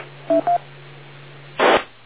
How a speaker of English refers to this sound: I had heard a phone ringing before. I don't know if it was on this frequency or the other one I'm monitoring.